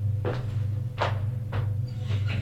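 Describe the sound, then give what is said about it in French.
The door of the green guest bedroom on the second floor is opened, giving three short rattling clunks spaced about half a second apart over a steady low hum. No one speaks. “Il ouvre la porte et lui dit, c'est la chambre verte”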